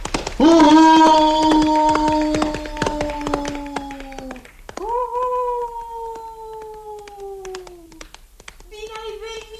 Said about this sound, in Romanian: Când urlă motanul dintr-un cap, se aude cale de o zi, iar când urlă din toate 7, se aude cale de 7 zile.